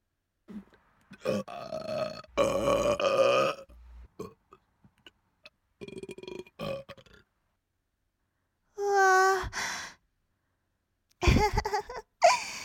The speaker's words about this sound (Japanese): やだ、すごいすごい、ゲップ止まんないよ。